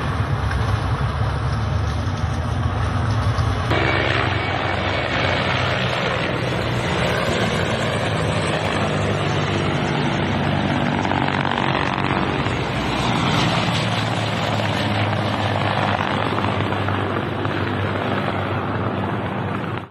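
vehicle, helicopter flying overhead

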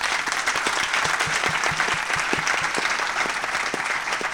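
crowd, round of applause

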